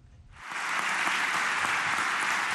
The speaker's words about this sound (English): To rousing applause from parliamentary deputies of his party, Turkish President Recep Tayyip Erdogan Wednesday accused Western countries of seeking to relaunch the Crusades.